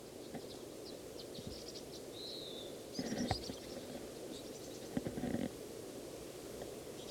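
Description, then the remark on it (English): Short, high-pitched bird chips and a brief whistled note come at irregular intervals, faint over a steady low rumbling background, with no one speaking. “On again, a few minutes later, same bird, same place.”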